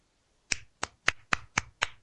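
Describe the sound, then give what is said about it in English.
Six sharp hand claps in a quick, steady rhythm, each a crisp bright smack that dies away fast, with no talking. “Are you hearing me giving you the clap?”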